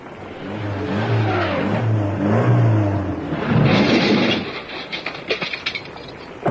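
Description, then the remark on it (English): A car engine revs hard in pouring rain as the driver backs up and gives it gas to jerk the stuck car free across a ditch, its droning pitch climbing and dipping, then surges into a harsh roar before a string of sharp metallic clanks and jolts follows. No one speaks. “The only way we'll budge her is if I back right up, give her the gas, and jerk her.”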